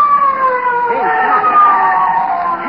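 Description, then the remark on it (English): A police car siren wails steadily, its pitch gliding slowly downward as the car draws near, fairly loud with some traffic rumble underneath and a voice briefly audible in the mix. “Hey, a police car. It's coming here.”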